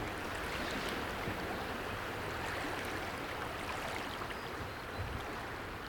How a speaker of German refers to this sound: ich bin gern an der Aare. Das Rauschen, das Vorüberziehen der grünen Flut, braun ist sie nur nach Gewittern und Schneeschmelze, hat dann etwas Trauriges, auf dessen Verschwinden man wartet.